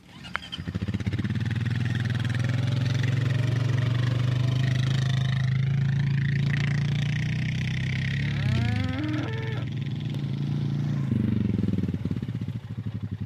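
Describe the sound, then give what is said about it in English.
A truck engine drones with a deep, steady rumble on a dairy farm while the driver puts down gravel to fix up the torn-up races, about the 30th truckload of gravel that week; its low hum shifts slightly in pitch, with a brief wavering tonal sound rising and falling partway through. “There's a truck behind us and the driver is putting down gravel.”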